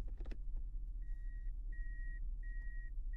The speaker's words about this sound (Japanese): この公園の向こう側が君の家なのよね。それじゃここで車を止めるわね。